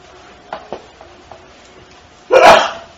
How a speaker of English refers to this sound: Bless you.